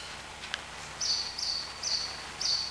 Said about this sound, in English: I'm getting an amen from the bird. I appreciate that.